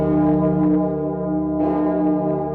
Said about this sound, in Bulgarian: Зад гърба на момчетата се разнася силен камбанен звън. Старият звънар е дошъл за неделната литургия.